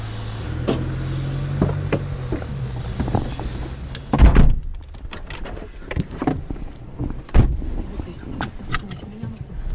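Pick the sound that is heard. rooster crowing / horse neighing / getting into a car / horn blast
getting into a car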